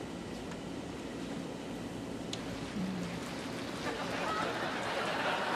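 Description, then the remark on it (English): Steady Brazilian rainforest rain hisses evenly throughout, a dense, unbroken wash of drops with a low rumble underneath and a few faint, brief tones poking through. “This is all the sounds of the Brazilian rainforest.”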